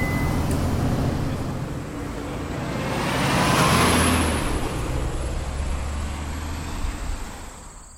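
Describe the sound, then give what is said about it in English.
A city bus in Boulder rumbles and hisses as it slows to a stop at an open space property, a high brake whine rising then fading over steady low engine drone, with the road noise swelling midway and easing off. No voices. “The great thing about bus birding is it can take you to all sorts of wonderful sights right around Boulder”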